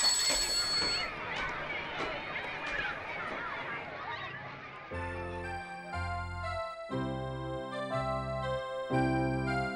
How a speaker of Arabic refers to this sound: أحبتي الحلوين، ولما سمع الطلاب جرس المدرسة ذهبوا إلى صفوفهم كلهم.